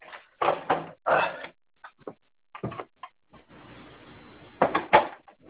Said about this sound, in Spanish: Deme un segundito, que estoy abriendo la puerta. Un ratito, por favor. Un ratito.